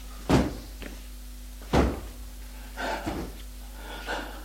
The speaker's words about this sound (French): Puis, il court vers la commode, ouvre les tiroirs. Mais il n'y a dedans que des vêtements.